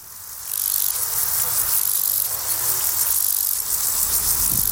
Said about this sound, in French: Là, c'est le criquet marginé.